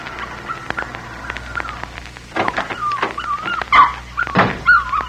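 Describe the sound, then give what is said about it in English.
A puppy whimpers as a little girl pulls small tufts of hair from its body, with thin, high whines that slide up and down, repeated over several seconds and broken by a few short, sharp yelps. No one speaks. “You're hurting the dog, little lady.”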